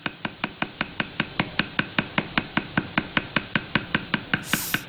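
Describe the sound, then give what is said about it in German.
Rapid, steady wooden taps of hand-tapped tattooing: one stick used as a hammer strikes the top end of another stick with tattoo needles tied to it, about five per second, each a sharp dry click. The rhythm stays even throughout with no voices, ending in a brief hiss. “Da haut er dann auf das Ende des ersten Stocks oben drauf und das Ganze hört sich dann so an.”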